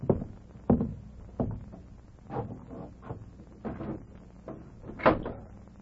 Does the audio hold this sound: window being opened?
yes